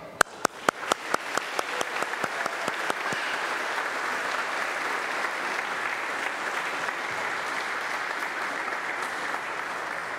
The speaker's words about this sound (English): Now, I know we already clapped for you, but we want to clap one more time to congratulate you to our parish family and our parish meal.